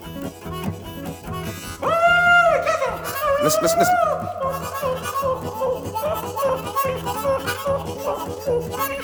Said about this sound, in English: Now listen to them, dog. Listen. There's old Pete now. Listen, old Pete. Listen to that dog.